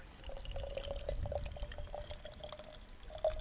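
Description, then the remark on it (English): Holy well water at Holy Well in Eastbourne pours steadily through a filter into a container, a continuous trickling stream with a faint ringing resonance and small splashes, fairly quiet, with no one speaking. “So now I've got this amazing filter.”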